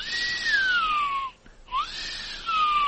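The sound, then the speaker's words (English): A person whistles to imitate the whistle noise a vehicle's engine makes when the motor is revved up: a sustained, fairly high tone that slowly sinks, breaks off briefly, then swoops up again and gradually slides back down. “So does it whistle, and when you rev the motor up, it goes...”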